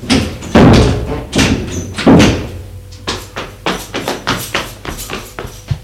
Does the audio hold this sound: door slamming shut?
yes